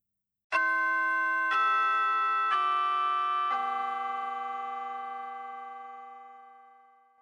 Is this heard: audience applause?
no